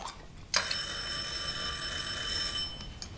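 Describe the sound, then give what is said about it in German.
A doorbell at a family home rings during a meal in one sustained, bright metallic trill lasting about two seconds, followed by a brief second ring near the end, clear with no talking. “Hat das gerade klingelt? Haben wir eine Klingel?”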